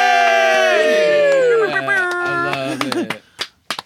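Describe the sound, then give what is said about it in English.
A burst of cheering from several voices, with long, rising and falling whoops that fade out, followed by a few sharp scattered claps at the end. “Everyone, give a round of applause”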